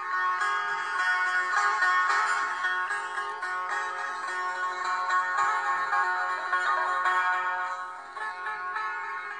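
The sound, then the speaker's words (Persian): A solo setar plays bright, ringing plucked notes in a continuous flowing passage, with shimmering sustained overtones at an even, moderate loudness and no voices. “تکنوازی ستار”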